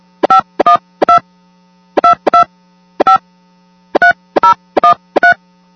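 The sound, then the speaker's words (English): A phone number being dialed on a touch-tone keypad to call back in: about eleven short, clear beeps in uneven groups, fairly loud, over a faint steady low hum, with no voices. “Let's call back in.”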